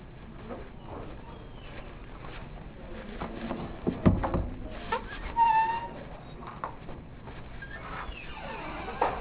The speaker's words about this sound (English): So what door opened and closed? The front of the room or the back of the room? The front of the room.